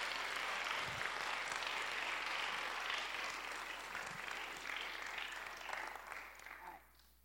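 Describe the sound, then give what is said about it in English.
An audience applauds steadily for a choir and bell choir, a dense wash of clapping holding for several seconds before tapering off at the end. “It's been a long couple of months, but we're here, and we did it, and you sound fantastic, so applause for the choir and bell choir.”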